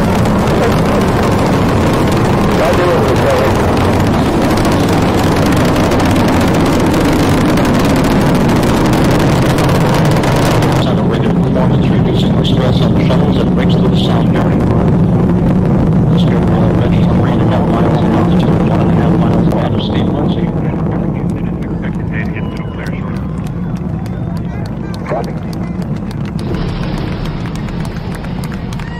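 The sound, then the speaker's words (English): Space shuttle Discovery's main engines roar at launch on a mission to the space station, a loud, steady, deep rumble that fills the whole recording without letup, its harsh upper crackle thinning partway through as the engine nozzles swivel to steer the shuttle. “Discovery's onboard computers commanding the main engine nozzles to swivel, aiming the shuttle for its precise target in space for main engine cutoff.”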